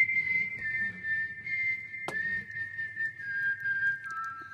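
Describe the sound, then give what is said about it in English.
A person whistles a steady, clear tune that drifts gently down in pitch over several seconds, with a low background rumble and a single sharp click midway through. “They have fake whistling. I mean, it's real whistling.”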